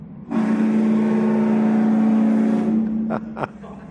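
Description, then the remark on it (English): A car drives steadily past through a green light with a loud, sustained engine drone lasting a few seconds, then fades, followed by two brief sharp bursts of sound near the end. “So the guy driving has got the right of way, and he's going.”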